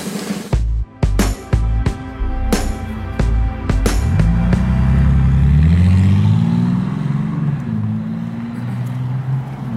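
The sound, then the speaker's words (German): Loud car engines rev in sharp bursts with abrupt gear cuts, then settle into a sustained roaring drone that rises and falls in pitch, powerful, with no voices. “Rührende Motoren.”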